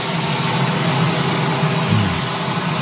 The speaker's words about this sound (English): Yes, the dulcet sounds of the auxiliary power unit on the helicopter.